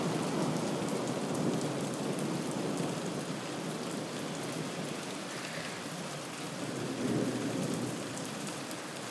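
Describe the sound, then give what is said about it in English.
Heavy rain pours down in a dense, steady hiss throughout during a thunderstorm, with a low rolling rumble of thunder swelling beneath it toward the end. No voices are heard. “But yeah, so that's the sort of rain we've got at the minute. We've avoided it till now, which is the first thunderstorm we've had.”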